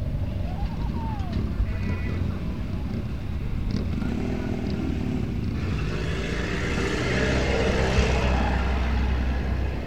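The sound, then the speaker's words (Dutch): A loud tractor engine, driven by a man, rumbles with deep chugging that grows louder and rougher toward the end as it drives past, with faint background voices mixed underneath. “Nou, dat was geen motor hoor. Dat was een of andere lul op een tractor.”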